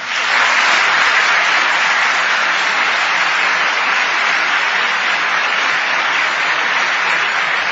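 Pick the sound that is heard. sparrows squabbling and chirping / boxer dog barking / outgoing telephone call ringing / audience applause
audience applause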